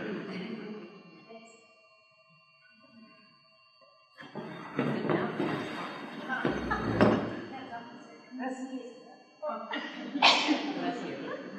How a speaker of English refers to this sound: I think I might have to sneeze 3 times to get it out.